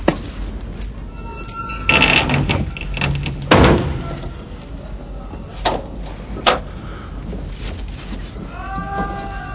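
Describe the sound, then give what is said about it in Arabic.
A door is pushed shut with a few heavy wooden thuds and creaks, spaced a second or two apart over a low room rumble. “اغلق الباب.”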